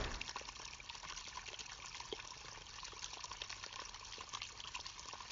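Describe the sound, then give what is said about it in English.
Steady flowing water from a spring well, a small dark hole coming out from under trees. A continuous bubbling trickle with small splashes, even in level throughout, with no voices. “There's a good amount of water flowing through.”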